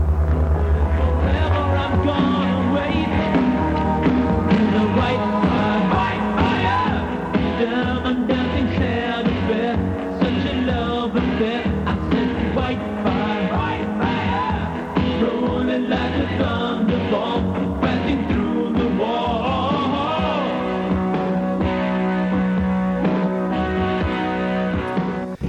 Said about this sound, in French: En background, ce que vous venez d'entendre, c'est le thème de Whitefire, qui est un film extrêmement mauvais.